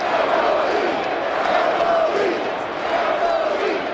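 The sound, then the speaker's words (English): A stadium crowd of Rangers baseball fans screams and roars without a break in the sixth inning as catcher Mike Napoli comes to bat against the Cardinals, a dense, loud wash of voices with wavering yells rising and falling above it. “Rangers fans were screaming in the sixth inning as their slugging catcher and sometimes first baseman Mike Napoli came to bat.”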